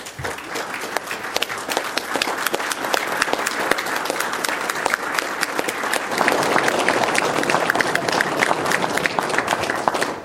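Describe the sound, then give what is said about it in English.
Sustained applause from an audience asked to stand and give a group a great hand: a dense wash of many hands clapping at once for about ten seconds, swelling slightly louder in the second half with no speech over it. “Let's all stand and give them a great hand.”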